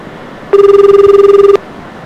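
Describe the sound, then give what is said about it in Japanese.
A single telephone ringback tone sounds for about a second as a call to the 110 police emergency line in Japan is transferred: a steady, buzzy warble pulsing rapidly, fairly loud, over faint background hiss, then stops. No one speaks. “転送されたね、今の。”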